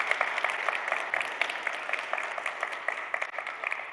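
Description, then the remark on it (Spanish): An audience applauds steadily, with dense overlapping claps forming a continuous crackling wash that holds at an even level for several seconds, with no voices. “Sí, ¿por qué denle un aplauso otra vez?”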